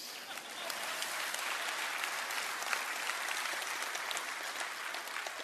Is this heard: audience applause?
yes